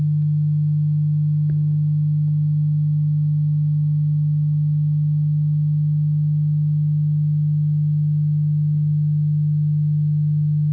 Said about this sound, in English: I could just play 50 cycles, but I'm going to put in 100 and 150 so we can hear the difference between them. Okay, here we go. 100, and so this is 50 cycles per second.